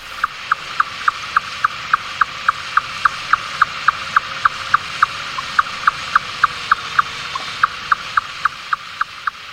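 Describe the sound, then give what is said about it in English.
Finback whale pulses tick at a steady, rapid interval, each a short, fairly high tap repeated dozens of times over a low background hum, with no talking. “And if you're lucky, on a good day, you will actually also hear finback whales, which produce very rhythmic sequences of pulses that remind you of drummers or elves tapping at a very regular interval.”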